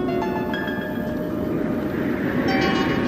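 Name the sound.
train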